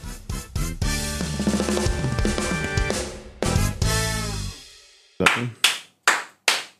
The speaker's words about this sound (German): Mit Applaus, so richtig, hier wird applaudiert, im Ernst.